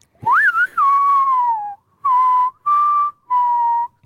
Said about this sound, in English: It's just whistling. You can't do it. Try to go that high. Try and go that high, dude. I can't. It can't be whistling. Human whistling? Damn, that is impressive if that's actually the case.